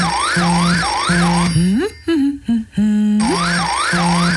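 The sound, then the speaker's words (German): A red telephone, the NATO special line for urgent crisis alarms, rings loudly, a warbling electronic trill that repeats steadily, breaks off briefly midway with a few gliding tones, then resumes. “Dein rotes Telefon klingelt.”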